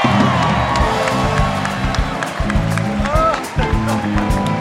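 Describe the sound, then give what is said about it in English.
A studio audience cheers and whoops loudly and continuously, with scattered shouts rising out of the roar of the crowd and no pause throughout. “This is a very hot crowd.”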